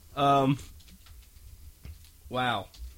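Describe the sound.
Faint, quick keyboard clicks tap away at a computer, sitting between two short bursts of a voice at either end.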